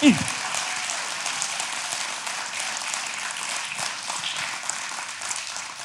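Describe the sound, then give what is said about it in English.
An audience claps steadily throughout, a dense, even wash of many hands at a constant moderate level, with a brief low thump at the very start. “You clap.”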